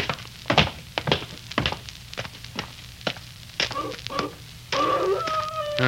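A few heavy thuds like footsteps, then a wolf howls in long, wavering tones that rise and hold steady near the end, fairly clear above a quiet background.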